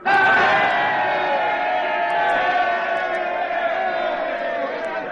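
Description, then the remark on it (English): A crowd of men at Hagalaki, British Columbia, on November 7th, 1885, shouts and cheers together after the spike was driven home, in one loud, sustained roar, many voices overlapping in a steady wall of sound that barely fades over several seconds. “And as the shouts subsided and the exchange of congratulations began, a voice was heard in the most prosaic of tones, as of a constant daily occurrence.”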